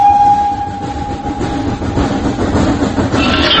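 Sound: passing train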